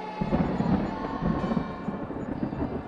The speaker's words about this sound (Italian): Quando il primo temporale venne a ricordare che l'inverno era alle porte